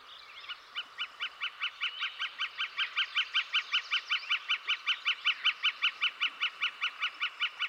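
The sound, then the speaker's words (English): A northern flicker, a member of the woodpecker family, calls a long, rapid run of sharp wick-wick-wick notes, steady and evenly spaced, swelling slightly louder midway, clear with no voices, at the marshy end of a lake before sunset. “It seems to say, wick, wick, wick, wick, wick, wick, wick, wick, wick. The northern flicker, that's what it is.”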